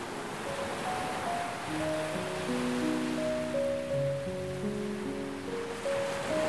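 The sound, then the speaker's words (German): A steady, rushing wash of ocean surf fills the scene without pause, with soft sustained musical tones drifting underneath and no voices. “Nach einigen Metern über Wasser tauchen die drei schließlich unter und arbeiten sich in die Tiefen des Ozeans vor.”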